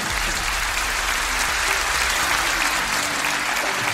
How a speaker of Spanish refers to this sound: Ok, un fuerte aplauso por este caso de éxito.